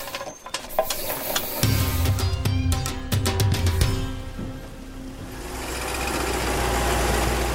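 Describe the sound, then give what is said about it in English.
A vehicle engine rumbles with a steady low drone while the body rattles and clunks over a bumpy, rarely used forest track as a forest officer drives on patrol, giving way to a broad rushing noise toward the end. “Forest Officer Mystery drives along a rarely used track.”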